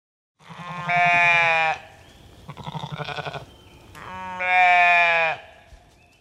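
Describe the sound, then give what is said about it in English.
A sheep bleats loudly: two long, quavering bleats with a shorter, wobbling call in between, with no other sounds around them. “Is it a sheep or a cow? It's a sheep.”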